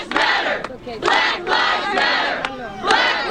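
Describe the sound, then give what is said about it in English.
Hundreds of demonstrators at a large protest in Washington shout and chant together in loud, surging bursts to express anger and frustration, voices overlapping into a continuous roar with rhythmic swells of about a second each and no single speaker standing out. “Hundreds of demonstrators show up to express their anger and frustration.”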